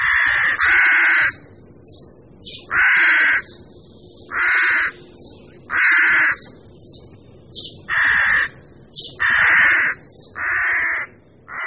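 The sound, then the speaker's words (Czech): Rooks cawing repeatedly at a colony of about 100 nests in the centre of the town of Kralupy nad Vltavou, harsh loud calls coming in quick bursts from several birds, overlapping at times, with no talking. “V současné době je tam kolem 100 hnízd havranů polních.”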